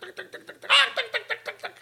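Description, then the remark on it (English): A human voice imitates a clucking chicken with a quick, steady series of short clucks, one louder squawk-like burst near the start, clear with no other sounds. “And he makes sound of chicken.”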